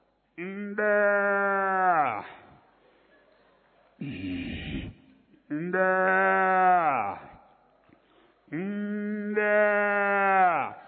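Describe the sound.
A human voice imitating a cow's calf calling: three long, drawn-out bleating moos, each rising and wavering, loud, with a short breathy vocal sound between the first and second.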